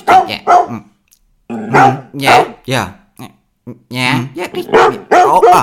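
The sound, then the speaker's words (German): A dog barks outside the house in loud, short bursts, several barks in quick clusters separated by brief pauses, with a mid-pitched, harmonic, slightly whiny tone. “Siehst du, Frederik, den Hund musst du fragen.”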